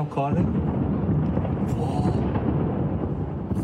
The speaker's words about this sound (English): for those still in Tehran, nights are spent like this, sheltering in place, the sound of explosions in the background.